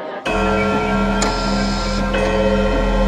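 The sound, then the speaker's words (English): An ebony clock ticks with sharp, evenly spaced clicks over a steady, resonant droning tone that starts abruptly and holds throughout, moderately loud. “Yet there sounded the ebony clock.”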